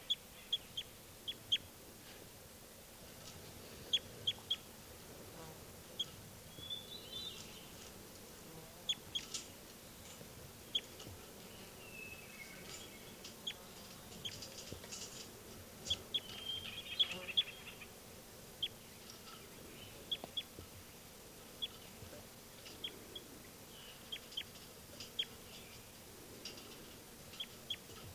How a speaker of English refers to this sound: Start recording again. Birds 393.